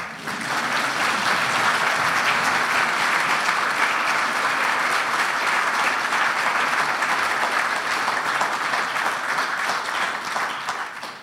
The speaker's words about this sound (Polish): Oklaski.